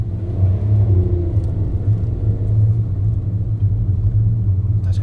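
A car's steady low engine rumble and road noise fill the whole stretch, loud, as if heard from inside the vehicle while driving along a narrow road on Route 16, with traffic building up behind.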